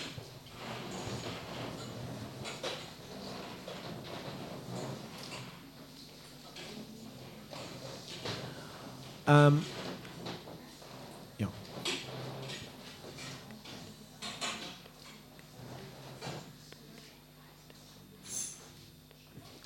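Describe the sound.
Chairs are shifted and moved away to make a circle, with scattered wooden clunks and scrapes and one sharp knock standing out midway, while faint voices murmur in the background.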